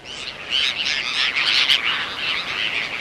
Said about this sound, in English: That's one of the first to arrive from the north, the Bonaparte's gull. Small, sleek, black-headed, and heralding a distinctive call, the Bonaparte's gull gathers in large flocks, jabbering along our beaches.